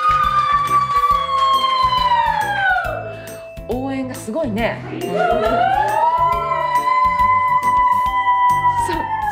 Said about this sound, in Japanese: サイレンよ、サイレン。